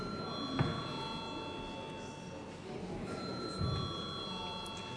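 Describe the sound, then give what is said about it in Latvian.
A parliamentary chamber bell rings steadily before a vote on sending a bill to committee, a sustained electric tone running the whole time over low murmur and shuffling. “Lūdzu, zvanu.”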